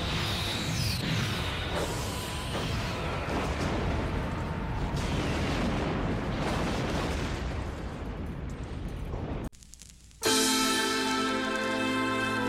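A loud, continuous barrage of booming explosions and artillery fire rumbles for several seconds, then cuts out briefly before a sustained, ringing tonal hum takes over.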